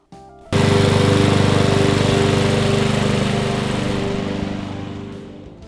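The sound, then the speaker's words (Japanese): Farm machinery worked by men growing rice in a rice paddy: an engine kicks in abruptly and holds a loud, steady, low chugging drone, easing slightly toward the end, with no voices. “おいしいお米を作るために田んぼでおじさんたちが頑張っているよ。”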